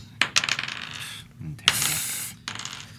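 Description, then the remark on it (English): A small die, rolled for a history check, drops onto a hard surface, bouncing with a few sharp clacks and then rattling and rolling away in bursts before going quiet. “Well, that dice gone forever.”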